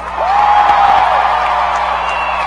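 A large crowd screams and cheers loudly and continuously, a dense wall of voices with a rising whoop riding above it, sustained at full volume for the whole stretch; the crowd is voting by screaming for Chad Hall and DeSean Jackson to share a dancing championship at Flight Night.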